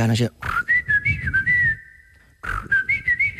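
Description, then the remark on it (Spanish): A person whistles an imitation of a blackbird's song: two fluttering, warbling melodic phrases at a fairly high pitch, separated by a brief pause, with a short vocal sound at the start. “La merla. La merla que, doncs, fa com...”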